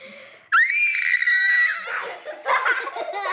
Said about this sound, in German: Ich halte ein Glas und schreie so laut, wie ich kann, rein.